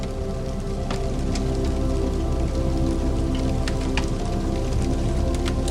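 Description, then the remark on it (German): A fire crackles softly and steadily in an old fireplace in a hut, with scattered small pops and snaps over a continuous low hiss and no voices. “Das leise Knistern und die Wärme des Kamins umhüllen die gesamte Hütte.”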